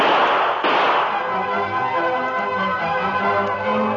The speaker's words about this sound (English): Across the street, Sheriff Fraser and Tonto entered the office from the cell room as the sound of gunfire was heard outside. Hey, Tonto, those were shots.